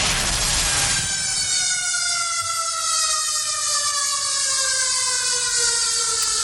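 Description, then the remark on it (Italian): A loud siren wails steadily, its tone slowly falling in pitch over several seconds, with a broad rushing noise beneath and no voices. “E vabbè, no, c'è la sirena, comunque manca poco che ci vengono a prendere.”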